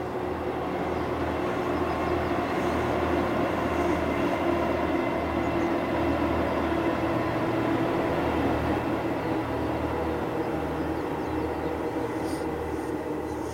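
A small diesel train carriage rumbles steadily across a viaduct, a loud continuous engine drone with a humming tone and rhythmic low clatter that holds evenly throughout, with no one talking.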